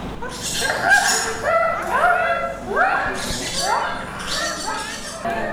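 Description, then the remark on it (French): Several children's voices squawk and screech in rising, warbling calls, imitating a parrot, with the cries overlapping in a busy, continuous burst. “Perroquet.”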